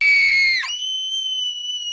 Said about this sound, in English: Just women screaming.